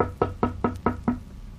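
Five quick, evenly spaced knocks on the wooden door of a goldsmith's house at night, fairly firm, each a solid hollow thud with nothing else heard around them.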